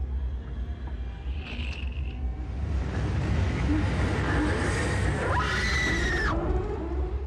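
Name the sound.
screaming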